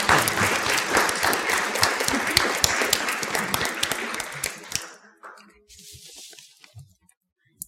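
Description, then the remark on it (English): An audience claps hands in dense, sustained applause for about five seconds, then it thins out into a few scattered claps and quiet room noise. “God, a hand clap this morning.”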